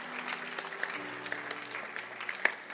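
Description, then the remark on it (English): A church audience applauds for a bishop with dense, steady clapping from many hands, a few sharper claps popping out over a continuous wash, with a faint low hum underneath and no one speaking. “Can you clap your hands”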